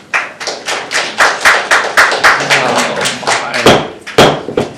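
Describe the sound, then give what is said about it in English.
A crowd at a public hearing claps steadily for several seconds, many hands overlapping into dense, bright applause with a few sharper individual claps standing out near the end. “Please don't applaud.”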